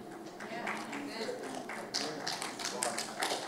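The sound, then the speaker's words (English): A few scattered, hesitant claps from an audience, irregular and thin, sharp little slaps spread unevenly across the moment over a low background murmur. “That was a pretty good golf clap right there. Kind of like, do I clap here or do I not clap here?”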